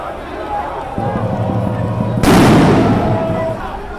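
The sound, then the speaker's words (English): A loud, sharp blast like a sound bomb or rubber-bullet shot erupts over steady crowd noise and protesters' shouting as police disperse the crowd with tear gas, sound bombs and rubber bullets, leaving a broad rushing roar that gradually fades. “Officers dispersed the crowd with tear gas, sound bombs, and rubber bullets, later telling news agencies that they retaliated only after they were attacked with Molotov cocktails.”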